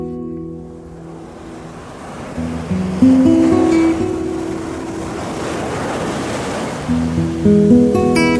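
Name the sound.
sea waves and surf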